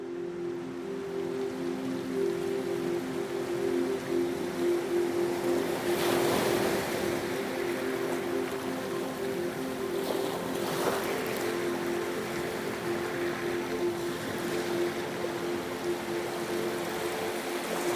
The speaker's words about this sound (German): Das Boot liegt am kleinen Hafen von Hangaroa an, der einzige hier. Fischerboote liegen hier vor Anker und schaukeln auf den sachten Wellen im Hafenbecken hin und her.